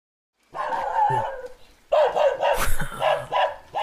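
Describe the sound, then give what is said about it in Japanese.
A dog barks and yips repeatedly in two bursts separated by a short pause, sounding lively. “あれが犬か。”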